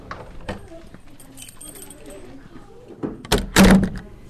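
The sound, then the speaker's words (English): A classroom door shuts with a solid thud, followed by metallic clicks and a rattle as the teacher locks it from the outside during a lockdown drill, with faint murmuring in the background. “She has just gone out to lock the door from the outside.”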